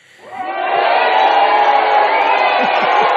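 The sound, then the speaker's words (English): A crowd bursts into loud applause and cheering, swelling within half a second and holding steady, with scattered whoops and shouts rising above the dense roar of clapping. “All right, hold your applause to the end.”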